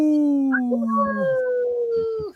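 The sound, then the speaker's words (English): People on the radio show Native Roots Radio howl in imitation of wolves: several overlapping, sustained voices glide slowly downward in pitch for about two seconds before cutting off abruptly. “We always have to howl here.”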